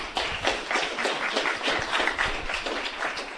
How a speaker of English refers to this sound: So a round of applause for our new members.